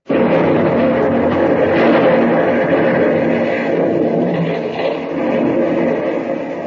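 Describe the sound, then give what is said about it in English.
A mine blasting charge goes off with a sudden loud burst, then a heavy, broad rumbling roar holds steady for several seconds before easing slightly, with no voices. “Sing out the warning. Okay. Here she goes.”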